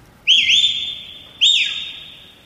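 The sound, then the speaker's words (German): A man standing in front of a parking space whistles two loud, clear notes in a row while waving to someone, each note sliding up quickly and then holding a long, steady high pitch before fading. No one speaks. “Da pfeift ein Mensch.”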